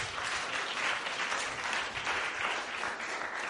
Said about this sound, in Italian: Un applauso per Book2Save.